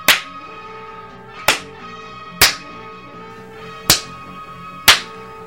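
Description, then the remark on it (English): Five sharp, loud slaps land at uneven intervals as a person repeatedly slaps themself, each a crisp smack against skin, over a steady tonal hum in the background, with no talking. “I'll repeatedly slap myself.”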